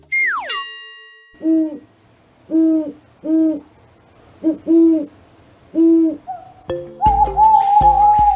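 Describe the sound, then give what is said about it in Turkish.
An owl hoots about six times in a steady, evenly spaced series of low, mellow calls, preceded by a falling whistle and followed by a sustained, bright electronic tone. “Bu canlının adı baykuş.”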